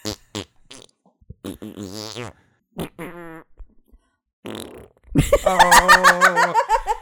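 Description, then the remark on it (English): A series of wet, buzzing raspberry fart noises blown with the lips, short bursts building to a longer, louder sputtering one near the end, with no speech. “Who doesn't like farting sure doesn't mind making a noise with their mouth.”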